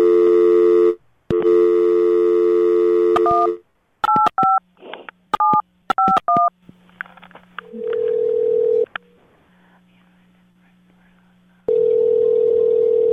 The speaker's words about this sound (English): Oh, shit. Dial tone time.